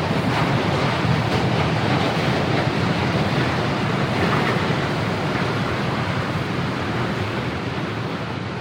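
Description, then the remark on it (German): An icebreaker ship grinds through the ice of a frozen river about 5 metres away, the weight of its bow breaking the ice sheet up and away to left and right. A loud, unbroken roar of cracking and crunching with a rushing, wind-like wash over it, steady for the whole stretch with no voices. “sie vorwärts kämpft und mit dem Gewicht ihres Bugs die Eisschicht nach links und rechts auf- und wegbricht.”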